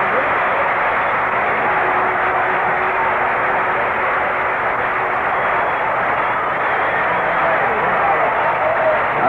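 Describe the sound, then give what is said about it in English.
A baseball stadium crowd applauds and cheers pitcher Bob Gibson as he comes up to hit on short rest in the bottom of the eighth inning, with St. Louis leading 7-3. The noise is a steady, dense wash at an even, fairly loud level for the whole stretch, with no clear breaks or individual voices. “For this right-hander here, as this crowd appreciates him coming back with short rest.”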